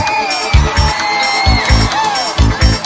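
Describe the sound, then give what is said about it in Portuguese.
An audience at a forró strip show shouts and cheers loudly in a steady roar for the women to undress first, with whoops rising above it and heavy thumping beats pulsing underneath every half second or so. “Dá um grito pras mulheres tirar primeiro a roupa.”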